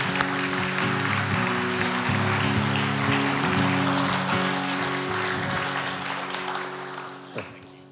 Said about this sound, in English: let's just clap our hands in thanksgiving to the Lord for what he's doing.